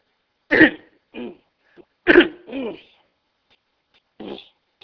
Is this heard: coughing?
yes